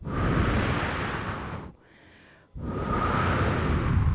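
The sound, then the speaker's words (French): A light wind starts to blow under clouds that have covered the sun: steady, breathy wind rushes with a full hiss, drops to a faint lull for under a second, then picks back up at the same strength. No voices are heard. “Un vent léger a commencé à souffler.”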